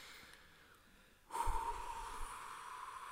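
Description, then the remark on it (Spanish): After a second of near silence, someone blows out a long, forceful breath until out of air, a steady breathy hiss with a rough low rumble that keeps going without letting up until the end. “Tenéis que soplar hasta que os quedéis sin aire.”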